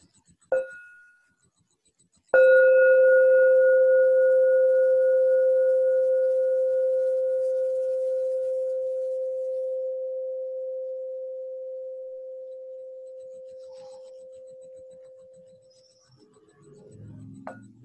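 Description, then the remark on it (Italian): A bell gives a light tap, then a firm strike that rings out in a clear, pure tone, slowly fading over about fourteen seconds before faint rustling at the end. “Campana, per favore.”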